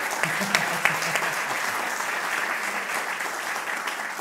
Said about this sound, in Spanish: Está mi señora acá que está de cumpleaños, así que... ¡Está de cumpleaños! ¡Un aplauso!